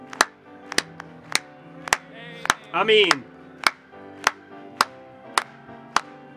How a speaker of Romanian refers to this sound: Haideți doar să o aplaudăm noi.